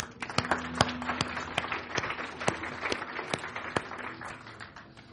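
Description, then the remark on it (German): An audience applauds steadily, a dense wash of clapping with a few sharper individual claps standing out, sustained at moderate volume with no talking over it. “Gehen Sie kurz mit nach neben. Ein Applaus.”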